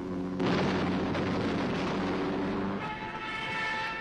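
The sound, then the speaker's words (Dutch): A sudden loud blast opens into a dense, sustained roar of German artillery fire and bomb explosions shelling Stalingrad during the Second World War, then settles into a steadier rumble with a faint high whine. No voices. “Die bestoken Stalingrad met artillerievuur, maar het levert ze niets op. Duitse kanonnen, Duitse bommen, beukten de stad tot puin.”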